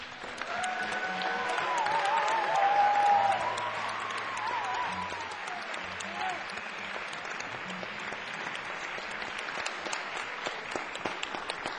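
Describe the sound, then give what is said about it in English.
An audience breaks into sustained applause as a music performance finishes up, dense overlapping clapping that swells in the first few seconds, with a brief wavering whistle-like tone, then holds at a steady, lively level to the end. “I think they're applauding because we're finishing up.”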